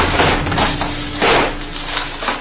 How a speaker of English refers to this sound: I heard a cracking sound, and another stretch of drywall smashed to the ground next to me.